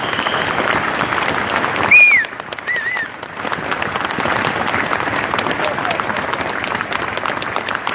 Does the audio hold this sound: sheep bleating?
no